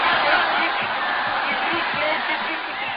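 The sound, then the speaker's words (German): A dense crowd of spectators at a fight roars and shouts continuously, rhythmically yelling the colours they are betting on, many voices blending into a loud, sustained din with faint rhythmic surges, filling the whole scene. “Im Rhythmus brüllen die Zuschauer die Farben, auf deren Sieg man wettet.”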